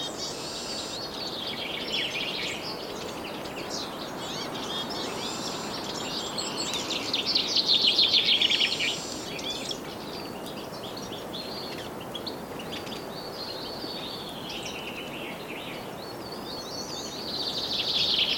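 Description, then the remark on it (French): Many birds sing and chirp continuously in a fir forest, overlapping high warbles and tweets over a soft steady background hiss, with a brief louder burst of song midway. “Le bal des oiseaux entre les sapinières.”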